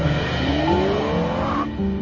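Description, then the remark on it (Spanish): A Mercedes pulls out of a garage with its engine revving up in a steady rising whine, loud, with a faint tire squeal over a low rumble, and no voices. “Un Mercedes sale de un garaje.”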